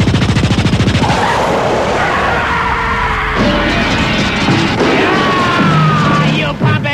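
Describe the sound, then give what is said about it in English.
A loud burst of rapid machine gun fire, a fast, steady rattle of shots, continuing under shouting and pitched, wavering vocal sounds before cutting off abruptly. “Any Volvo that goes by, I open fire!”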